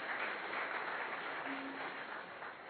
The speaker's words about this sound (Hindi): तो जोरदार तालियां सर के लिए।